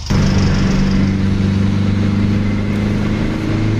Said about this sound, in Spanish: Que dio paso al sonido del motor de un 600 como este, con el que empezó a competir como copiloto.